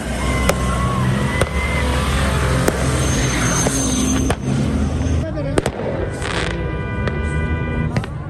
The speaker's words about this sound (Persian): با غروب آفتاب، زمانی که شب فضا را در این صحرای ریگی تاریک میسازد، تجمع تماشاچیان که همه مردان هستند به جشن آتش بازی و آتش افروزی مبدل میشود.